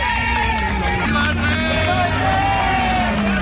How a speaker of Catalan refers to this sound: Pues así, con aplausos, con vítores y también con banderas de España, era recibido cuando a las 10:05 de la mañana llegaba la Zarzuela. El rey don Juan Carlos llegaba a la que ha sido su casa durante 57 años